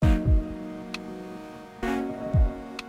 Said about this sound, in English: When you make sound, your alarm clock makes sound, it's creating pressure vibrations in the air where it is. Those pressure vibrations propagate outwards.